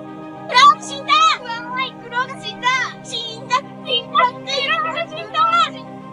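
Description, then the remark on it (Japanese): Tiny, squeaky voices of pill bugs gathered in a festive mood under a ginkgo tree cheer in quick, excited bursts, about a dozen short chirpy calls tumbling over one another above a low, steady hum. “耳の奥に小さい歓声が聞こえてきます。”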